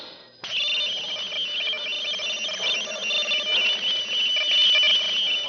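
An electronic signal from outer space, received at an observatory, starts abruptly and holds steady: a loud, continuous warbling buzz of layered high tones with fluttering, shifting noise patterns throughout. No one speaks.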